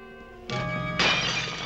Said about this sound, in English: She drops a glass flask.